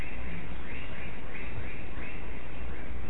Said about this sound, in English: Something very nice to hear, chirping with the crickets.